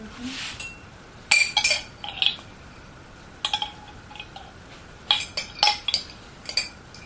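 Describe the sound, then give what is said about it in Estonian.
A spoon clinks and scrapes against a dish in several short bursts as the inside of the dish is scraped clean, bright metallic taps clustered in quick groups with quiet pauses between, over a soft steady background hiss. “No aga kraabi ikkagi lusikaga seest puhtaks ka.”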